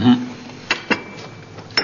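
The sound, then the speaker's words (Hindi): A few sharp, bright clinks of dishes knocking together, spaced irregularly over a faint background hum, as a daughter cleans the dishes. “अम्मे बेटी बर्तनों की सफाई करते करते कहीं बर्तनों को तय ना कर देना।”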